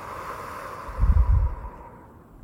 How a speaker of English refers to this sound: breathing deeply through the nose, holding for a few seconds, and then breathing out through the mouth. Breathing this way slows our heart rates, helps calm anxiety, and therefore helps us feel sleepy. Okay, start breathing in. Hold. And breathe out.